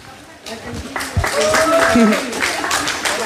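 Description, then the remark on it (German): An audience at the Radio 1 Sommergarten claps with wet hands to welcome an astronaut guest: a dense, steady patter of many claps that swells after a quieter start and keeps going, with a few voices calling out underneath. “Ja, mit nassen Händchen klatscht sich auch ein bisschen mühsamer.”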